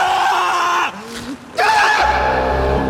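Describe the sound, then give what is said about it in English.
A man screams at a boulder, a loud, strained scream of rage, pausing briefly for breath before bellowing again, with a low rumble creeping in underneath toward the end. “walks over to a boulder and screams at it.”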